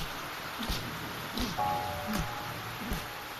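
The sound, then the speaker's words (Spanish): Steady rain falls with a soft, continuous hiss, broken by scattered sharper drips and taps; no voices are heard. “Qué malo recuerdo me trae esta lluvia.”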